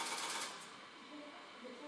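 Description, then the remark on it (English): Quiet mechanical clattering and whirring from an old automatic telephone exchange switching as a number is dialed on an old-style telephone, set in steady hiss with faint humming tones toward the end. “Telephone exchange is doing stuff. She must be dialing.”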